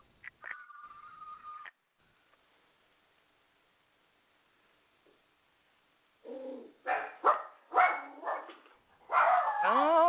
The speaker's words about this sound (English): I hear the puppy in the background. That was our sound effect.